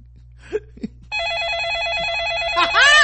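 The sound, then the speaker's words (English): A telephone rings with a loud, continuous electronic warble that starts about a third of the way in, preceded by a couple of brief vocal sounds. “I know that phone call was motherfucking ridiculous.”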